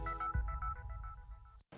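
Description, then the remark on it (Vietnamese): An electronic telephone ringtone chirps in quick, repeated melodic tones over a low background rumble, a phone ringing in Times Square, New York. It cuts off abruptly into a moment of silence near the end. “Nếu đang lang thang ở quảng trường thời đại và nghe tiếng chuông điện thoại reo nên tôi bắt máy.”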